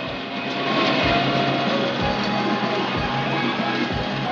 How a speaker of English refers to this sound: The ride's operator releases the brake and the waltzer starts to move.